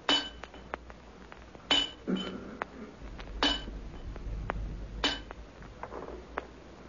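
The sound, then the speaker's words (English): Sharp metallic taps and clinks of chipping at something hard, striking at an irregular pace, some blows louder and ringing, with a low rumble underneath and no voices. “Leaving young Garrick chipping away”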